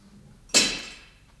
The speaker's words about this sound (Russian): Что это? Коньки упали.